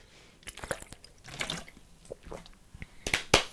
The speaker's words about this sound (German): Erstmal einen Schluck Wasser trinken.